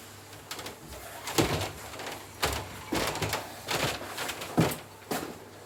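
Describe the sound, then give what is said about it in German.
A man opens the back door leading out to a courtyard, handling and pushing it with a series of sharp clunks and rattles spaced irregularly over several seconds against a quiet background. No one speaks. “Er geht zum Hintereingang. Durch die offene Tür tritt er in den Hof.”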